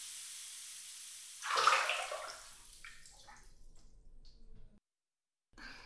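Hot carbonated water splashes and pours in a footbath and over the calves, a broad hissing burst that swells then settles into softer trickling and sloshing, ending in a brief silence before another splash.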